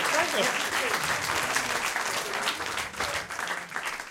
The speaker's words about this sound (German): Ah ja, dann nochmal Applaus für dich. Herzlichen Glückwunsch. Und auch Applaus für dich.